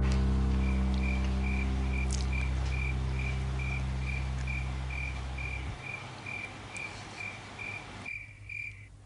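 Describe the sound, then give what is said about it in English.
Crickets chirp in a steady, evenly spaced rhythm of high pulses over a low background hum that cuts out partway through, leaving the chirping nearly alone. “We're having a conversation, and then all of a sudden, it's just cricket, cricket, cricket.”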